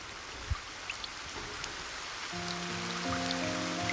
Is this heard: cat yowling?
no